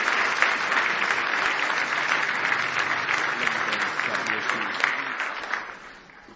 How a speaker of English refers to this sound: Do you love him with all your heart this morning? Give him one more big hand clap of praise if you love him this morning